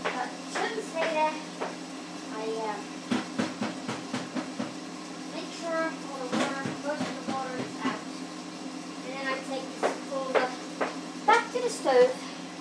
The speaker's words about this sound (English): put the rice back in the kettle, pan, whatever that word is, I can never remember, in which I boiled it.